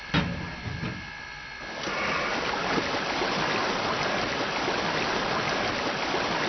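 Water gushes steadily into a steam locomotive's tank as the engine takes on water during a stop, a dense, continuous rushing that swells in after a quieter mechanical start and holds at a strong, even level. No one speaks.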